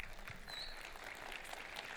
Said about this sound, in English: Yeah, at least you got more claps than I did, so, you know, hey. They clapped for you,